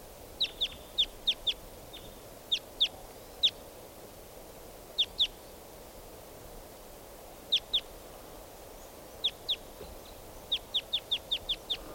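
Wild birds, including type 2 and type 4 birds, give sharp, high-pitched chirping calls in short bursts of two to five notes, repeated throughout over a steady low background hiss, with no one speaking.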